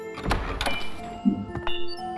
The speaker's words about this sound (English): The cellar door.